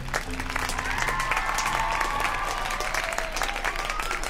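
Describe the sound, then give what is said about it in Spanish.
Steady applause from a crowd, dense clapping that holds at an even loudness for several seconds, with a few faint tonal sounds drifting underneath. “Un aplauso para Bruno y Mock.”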